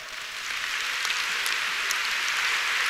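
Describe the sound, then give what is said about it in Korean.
A large audience at a celebration of the 150th anniversary of Christian mission claps steadily for a few seconds, a dense, even wash of bright hand claps with no voices, holding roughly the same loudness throughout. “여러분 옆에 있는 분들에게도 그렇게 좀 박수해 주십시오.”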